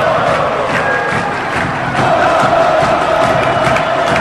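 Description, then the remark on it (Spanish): A huge stadium crowd of Olimpia fans in Sajonia roars and cheers a goal by Arias against Sol de América. A dense, unbroken wall of shouting voices holds loud throughout and swells slightly halfway through. “El partido sufrido por el público de Olimpia, su equipo en la cancha de hablar, el grito franjeado que retumba en Sajonia.”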